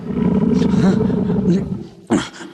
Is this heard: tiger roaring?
yes